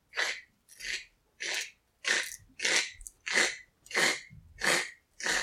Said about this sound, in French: Ce sont des pas dans la neige qui s'approchent de la moufle à nouveau. Cette fois-ci, il s'agit d'un renard qui s'approche.